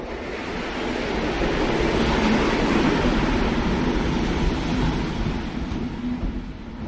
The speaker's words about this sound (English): We are standing here just in front of the train to Amsterdam from Brussels.